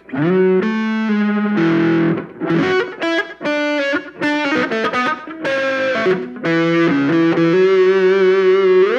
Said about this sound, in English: Got a nice little slapbacky delay. I can't tell if that's just one slapback. I think it's several. I think that's actually a digital delay. It's not just one, because I tend to not like the slapback.